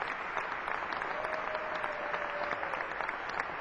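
An audience applauds steadily, a dense wash of many hands clapping at an even, sustained loudness for the whole stretch, with no voices standing out.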